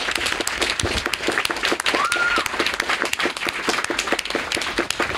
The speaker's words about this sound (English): I want much everybody, like everybody here, especially the allies, especially if you've never done sex work, really loud round of applause for everybody who has ever done sex work.